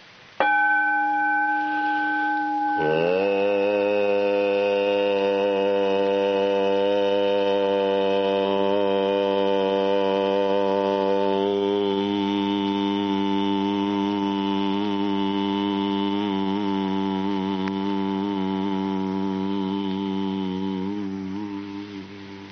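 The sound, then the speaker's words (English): A ringing metallic gong tone sounds briefly, then a deep, steady hum joins it and holds the same pitch for about twenty seconds, wavering slightly before fading out. “Take the tone from the gong and hum it with me.”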